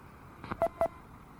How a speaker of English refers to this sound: NU6P, touch tone pad test.